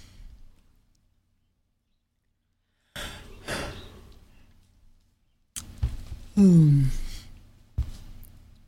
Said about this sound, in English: Yawn time.